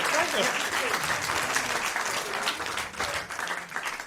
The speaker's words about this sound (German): Ah ja, dann nochmal Applaus für dich. Herzlichen Glückwunsch. Und auch Applaus für dich.